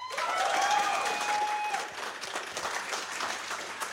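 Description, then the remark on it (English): A live audience votes by clapping, breaking into loud, sustained applause, many hands clapping densely together, with a brief high whistle early on before the clapping gradually thins out. “now clap if you think that... Mario Party would be the best hero of Gotham”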